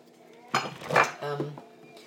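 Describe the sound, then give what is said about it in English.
A dog licks at its metal food dish, pushing it so it rattles and clanks in a few short bursts over about a second, with no talking. “So my dog's just licking his dish, ever hopeful that something else is going to materialise.”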